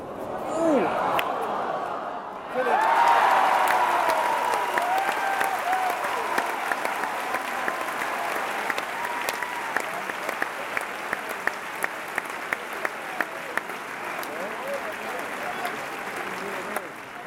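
Sustained, loud applause from a large crowd at a tennis tournament on center court, the tournament's biggest so far, set off by player Coco Gauff; a dense wash of clapping with scattered sharper claps and occasional cheers, swelling after a brief lull and continuing steadily.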